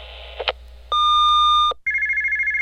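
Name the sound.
telephone ringing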